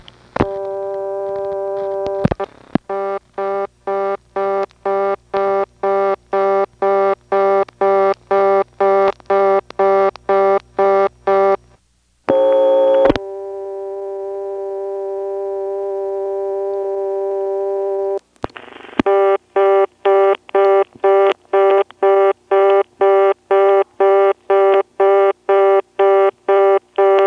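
A fast, rapidly pulsing telephone reorder tone, heard after dialing 1 on a phone line with a range extender, repeats loudly, breaks briefly into a steady tone, then a second phone gives the same quick beeping cadence. No one speaks.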